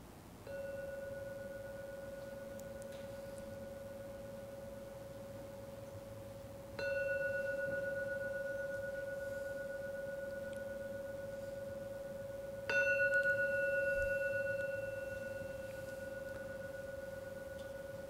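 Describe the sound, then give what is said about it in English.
A meditation gong is struck three times to end a meditation session, about six seconds apart, each strike swelling into a steady, humming mid-pitched tone that rings on and overlaps the next. No one speaks. “Now, we'll ring the gong 3 times, as usual.”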